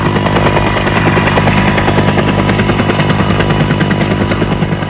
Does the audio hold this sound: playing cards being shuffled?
no